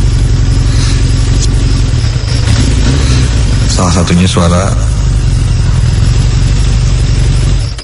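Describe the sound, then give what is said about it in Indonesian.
A car engine idles with a steady, low rumble heard faintly from afar for several seconds, a voice speaking briefly over it, before the engine sound cuts out at the very end. “suara yang tadi, yang perlahan berhenti dan tidak terdengar lagi. Ya, sepertinya ada pengunjung lain yang ingin mengisi bensin, pikirku.”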